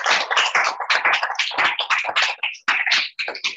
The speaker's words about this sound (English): Everyone give them a round of applause.